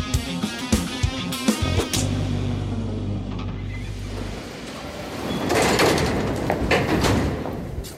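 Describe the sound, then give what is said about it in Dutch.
Metro train sounds: a few sharp clanks and knocks, then a steady low rumbling hum as sliding doors move, followed by a rising hiss and mechanical whoosh as the train gets underway, with no talking. “Ja, daar zitten we dan samen in de metro.”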